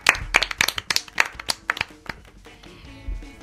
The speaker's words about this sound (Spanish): Muy bien, chicos, un aplauso para vosotros.